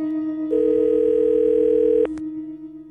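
A long, steady telephone dial tone holds one unchanging pitch for about a second and a half over a low background hum, then cuts off abruptly.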